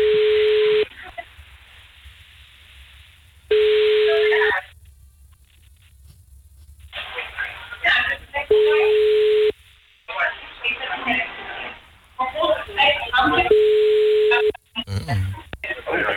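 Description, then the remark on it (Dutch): An outgoing phone call to the next caller on 3FM radio rings over a narrow telephone line: a steady mid-pitched ringback tone sounds four times at regular intervals, with muffled voices and line chatter between the rings. “Oké, okay, nou, we gaan gewoon iemand... de volgende bel, ik weet ook niet wie het is, maar dat horen we gauw genoeg.”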